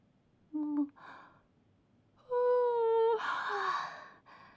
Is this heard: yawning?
yes